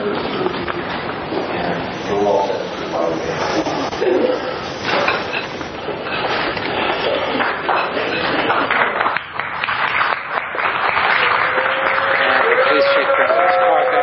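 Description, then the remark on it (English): A large crowd fills Bookshop Santa Cruz, a bookshop in Santa Cruz, with steady, overlapping chatter, many voices blending into a loud, continuous murmur that never lets up, with occasional brighter voices rising above the hubbub. “Pretty large crowd.”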